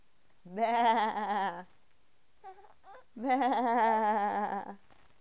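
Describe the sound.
While reading a picture book, a person imitates a black sheep with two long, wavering bleats, each over a second, separated by a brief pause with a few soft vocal sounds. Fairly loud.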